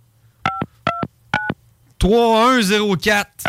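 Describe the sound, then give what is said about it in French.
Three short telephone keypad tones beep in an even rhythm as a phone number is dialed, each a steady dual-pitched blip, followed by a man speaking right after them. “Il faut-tu que je fasse le 1, tu penses?”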